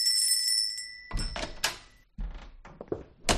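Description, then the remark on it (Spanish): The door of a small shop on Avenida Libertad in Murcia opens to a small, discreet bell ringing with a bright, lingering chime, followed by the clunks and rattles of the door swinging. No voices are heard. “No hay carteles deslumbrantes ni anuncios llamativos, solamente una puerta que se abre al sonido de una campanilla discreta.”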